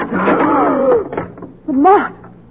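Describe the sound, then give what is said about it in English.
A door creaks open with a long, wavering squeal of the hinges, pausing briefly before a second shorter creak, fairly loud. “Where does that door go? Into an all the least outside. Right, open it.”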